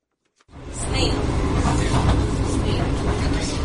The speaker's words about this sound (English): VOA hopped aboard for the train's first journey.